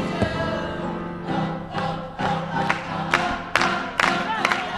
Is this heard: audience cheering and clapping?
yes